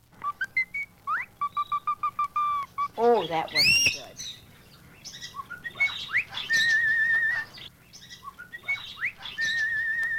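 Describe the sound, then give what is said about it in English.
Cleopatra, a cockatiel from Australia, whistles the first part of Caprice Viennois in clear, repeated notes and sliding phrases, fairly loud, with a brief spoken remark partway through and chirpy trills later. “Listen to Cleopatra whistle the first part of Caprice Viennois.”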